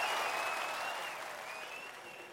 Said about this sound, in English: Yes, I was just doing a little clapping there.